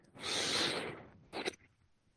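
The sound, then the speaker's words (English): Two forceful breaths of bhastrika pranayama (bellows breathing) rush through the nose, loud: a long, airy inhale-like whoosh followed by a short, sharp snort-like exhale, with no talking. “Bhastrika pranayama. Close your eyes and go. Go as active as you feel comfortable with. Breathing in and out through the nose only.”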